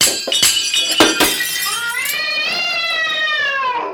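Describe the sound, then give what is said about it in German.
White dishes crash down and shatter as a cat lands on a cupboard, a quick burst of loud clattering, sharp impacts over the first two seconds, then a long, rising-and-falling cat yowl takes over. “Und landet mit Klamauk, manken dat scheune Witte Geschirr, dat kam den Runner mit Geklirr.”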